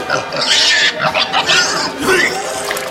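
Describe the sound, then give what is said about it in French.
A voice makes loud pig-like grunts and snorting oinks in several rough bursts, mixed with gurgling chuckles, like a drunk pig vomiting while laughing. “Non, mais c'est drôle, viande saoule, d'accord, pour un cochon, mais là, quand tu vomis en te marrant, on dirait Farrugia dans la cité de la peur.”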